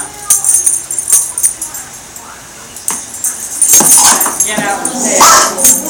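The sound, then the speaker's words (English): A dog whimpers and lets out short, sharp barks in scattered bursts, growing more insistent toward the end, with faint voices and clattering in the background. “Don't let the dog get you on the way out.”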